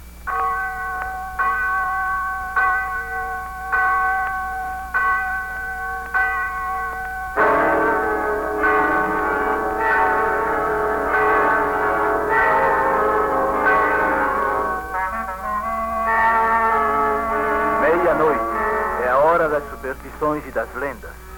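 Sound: church bell striking midnight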